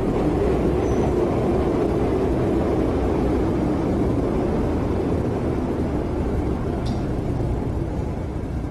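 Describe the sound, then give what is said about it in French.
A steady, loud low-frequency rumble of a metro train running along the rails, continuous throughout with a faint brief squeal near the end and no voices. “Je pense que si quelqu'un se jetait sous les rails, là, il aurait mal.”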